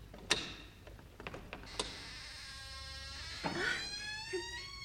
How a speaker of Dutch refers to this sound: Trek maar aan het touwtje, dan gaat de deur vanzelf wel open.